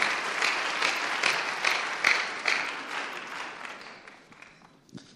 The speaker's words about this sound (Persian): بازم تشویقشون کنه. ممنون.